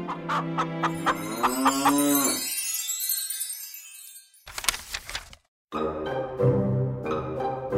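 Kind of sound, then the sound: animal, cow mooing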